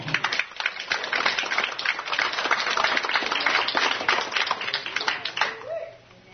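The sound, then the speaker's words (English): An audience at a sermon claps together in a dense, steady burst of applause that holds for about five seconds before quickly tapering off into quiet. “Is that all right? Can we clap?”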